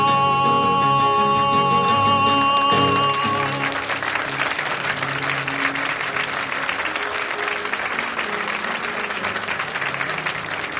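A live song recorded in 1957 ends with its last sustained notes overlapping a swell of audience applause, which then carries on alone as steady, dense clapping for several seconds.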